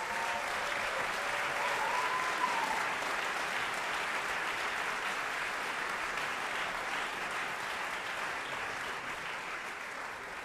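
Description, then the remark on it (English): Sustained audience applause at a jazz recital for guest vocalists, a dense steady wash of clapping that holds fairly loud for about ten seconds, with a faint whistle near the start and no talking over it. “Yes, please give them a round of applause.”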